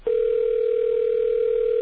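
A telephone ringback tone on a call to Discover Card customer service sounds as one steady, unbroken electronic hum, loud, holding at an even pitch for nearly two seconds with no voices.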